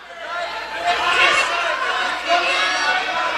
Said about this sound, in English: The crowd got so rowdy at one point that LaMalfa had to leave the stage.